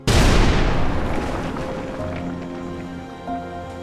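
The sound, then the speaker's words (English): A sudden, loud explosion inside a house at around 10:30 p.m. bursts out at once, then rumbles and decays over a few seconds with crackling debris and faint ringing tones as it fades. “At around 10:30 p.m., Harry and Harriet's 22-year-old daughter, Peaches, awoke to the sound of a massive explosion somewhere in the house.”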